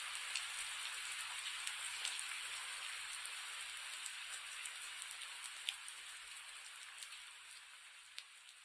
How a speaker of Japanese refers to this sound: 雨音ってとてもリラックスするそうです。その科学的証拠に F 分の1揺らぎというのがあります。